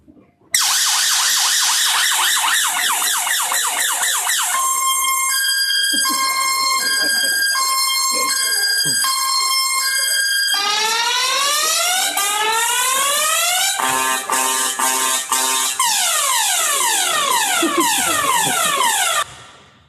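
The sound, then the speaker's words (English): A loud car security alarm siren runs through its cycle: rapid falling sweeps, then a two-tone alternating wail, rising sweeps, a fast pulsing warble, and falling sweeps again, continuous for about twenty seconds. “There's another mode which is also useful for protecting your car.”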